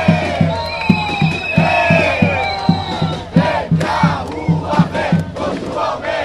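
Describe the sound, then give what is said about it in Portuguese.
A large crowd of protesters against a bus fare increase chants and shouts together in a steady rhythm on the blocked Avenida Paulista, voices rising and falling over a regular pounding drumbeat, loud and continuous throughout. “Mais uma vez, manifestantes protestaram contra o aumento da passagem de ônibus e pararam importantes avenidas da capital.”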